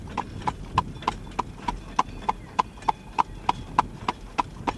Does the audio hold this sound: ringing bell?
no